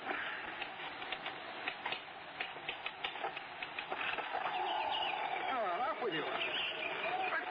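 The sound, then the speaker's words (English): A bird trying to get in at a window pecks and taps sharply and repeatedly, then breaks into a few warbling, swooping chirps over a muffled background hiss. “There's some bird trying to get in.”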